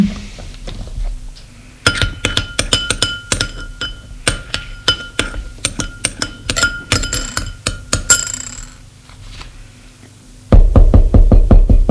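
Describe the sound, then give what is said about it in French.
Light clinking like glassware or dishes as a woman serves herself, then a quick, loud burst of knocking on a door at the end, by her husband. No one speaks. “On a frappé à la porte.”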